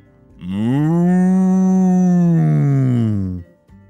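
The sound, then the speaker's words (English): A single long moo from one very large cow, loud, holding a steady low tone for about three seconds before trailing off, with no other sounds around it. “There were deer and horses and pigs and one very large cow.”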